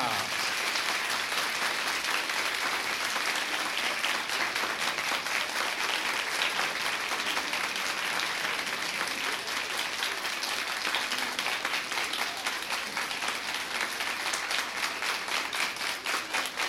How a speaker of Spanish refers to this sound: Poco a poquito se va disminuyendo sabiendo que siempre hay algún gracioso que quiere ser el último en aplaudir. Lo vamos a dejar entonces espontáneamente.